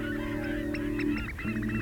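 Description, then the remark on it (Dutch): A dense flock of migrating geese honking continuously during a stopover on a small island in the Wadden Sea, many overlapping calls in a busy chorus with a steady low hum beneath, moderately loud, with no voices. “Duizenden vogels trekken elk jaar naar het noorden en maken een tussenstop op het kleine eilandje in de Waddenzee.”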